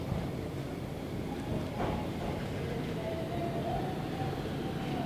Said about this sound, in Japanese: 2両編成の路面電車が今目の前に到着しました。すごく可愛らしい緑とクリームベージュの色をした、なんかこう昔ながらの車両のイメージがあります。